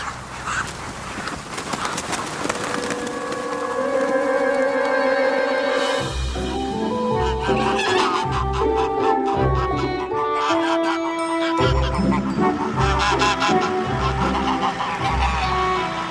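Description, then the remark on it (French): Ducks being raised for magret (duck breast) in Donzy flap their wings in repeated bursts amid a busy flock, with quacking and other bird calls, growing denser and louder in the second half. “J'adore ce bruit d'ailes.”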